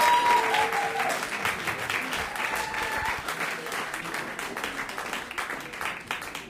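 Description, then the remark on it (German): An audience applauds the performer Remco Reed steadily for several seconds, a dense patter of many hands clapping that gradually thins and softens toward the end, with a few faint whoops or whistles early on. “Ein kleiner Applaus für Remco Reed.”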